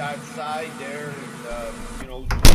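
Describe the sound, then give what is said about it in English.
People talk for a couple of seconds, then a single loud thump sounds as an office door is shut near the end. “But close the door!”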